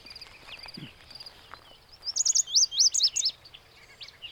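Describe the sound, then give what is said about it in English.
A lazuli bunting sings a quick, bright phrase of high, slurred and buzzy notes, clear, over a quiet outdoor morning background with faint chirps before it. “Lazuli bunting. I think this is our prettiest bird.”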